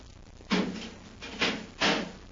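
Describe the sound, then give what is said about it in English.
A heavy door swings shut with a loud scraping thump, followed by two more clunks as it settles and latches, with no one speaking. “Better close the door behind us”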